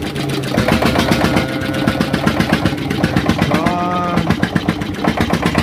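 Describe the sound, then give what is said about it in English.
A small boat engine, hand-cranked with a rope to get it started, chugs loudly in a rapid, steady putter, its rhythmic pulses running without pause from start to finish. “He was hand cranking the engine to get her started.”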